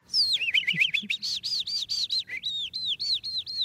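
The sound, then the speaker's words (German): An animal voice imitator imitates a skylark with the mouth, producing a rapid, continuous run of high, warbling chirps and trills that sound convincingly birdlike, with no talking. “Zum Beispiel diese Feldlerche hier stammt aus dem Mund von einem Tierstimmenimitator.”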